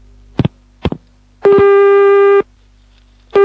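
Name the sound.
telephone tone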